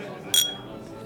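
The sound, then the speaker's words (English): A single bright, ringing clink of drinking glasses touched together in a toast, short, over a low murmur of background chatter. “I can't believe Amanda Merriweather bought me a drink. Yep. Cheers. Cheers.”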